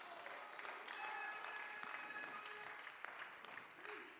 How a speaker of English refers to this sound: If you believe that, lift up your voice, clap your hands right now. Give God a little praise.